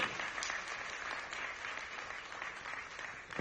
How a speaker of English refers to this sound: And I just want to lift up applause to everyone that went on that trip and just encourage them on the commitment they made. So really, just lift up applause with me today, please.